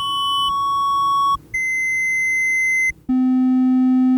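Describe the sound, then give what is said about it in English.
Three sustained electronic tones from a phone's screen-time audiograph, which plays tones based on the activities used, play one after another at different pitches, briefly separated by short gaps, ending on a much lower, louder tone for a day of very low screen time. No one speaks. “So you can hear it was high, then a little bit lower, and then obviously today was really low, so it gave you the low tone.”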